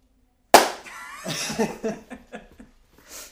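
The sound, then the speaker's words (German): A single loud, sharp hand clap rings out, followed by a short run of softer, uneven claps that trail off, with a bit of laughter mixed in. “Ich glaube, wir müssen erstmal klatschen.”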